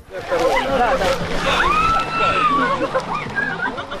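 Water sloshes and splashes as people plunge into an icy ice hole in the sea at Mariupol for traditional Epiphany bathing, while a busy crowd of thousands chatters and calls out the whole time.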